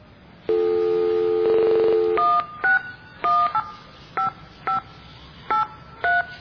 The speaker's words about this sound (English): We just gotta find a payphone, dial the phone number, and when it asks for money, we press the buttons and it pays you to put money in.